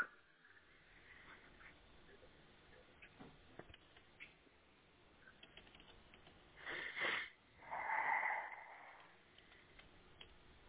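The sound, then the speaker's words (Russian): A chicken hisses in two harsh bursts, a short one followed by a longer, squawky one, loud over a faint, muffled background with no talking. “Это шипишь, курица.”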